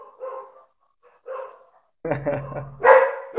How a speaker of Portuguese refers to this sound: Cachorro veio latir aqui. Espera rapidinho só para eu fechar a porta, melhor.